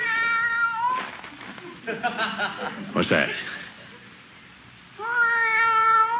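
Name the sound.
cat meowing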